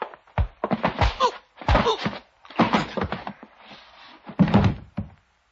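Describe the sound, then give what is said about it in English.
A door being opened, with a series of heavy thunks and rattling knocks in uneven bursts over several seconds, fairly loud, and no one talking. “Open the door.”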